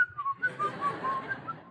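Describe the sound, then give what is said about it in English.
A person whistles a quick series of short, chirpy notes in imitation of a bird, clear with no talking, the warbling pitches hopping up and down for under two seconds. “They whistle everywhere they go.”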